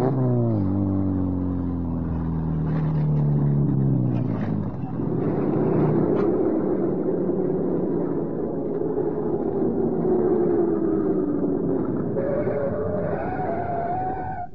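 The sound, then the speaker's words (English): A car engine winds down, its pitch falling over the first few seconds, then settles into a steady, rumbling idle with a slight rise near the end. No one speaks. “All right, stop the car.”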